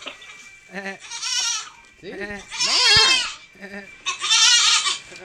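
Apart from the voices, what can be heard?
goat bleating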